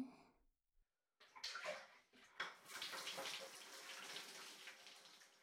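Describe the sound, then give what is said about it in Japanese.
Water gushes and splashes steadily after a brief silence, a continuous pour of hot water like a tap or shower rinsing soap foam off into a tub, with no voices. “じゃあ、お湯で泡流すね。”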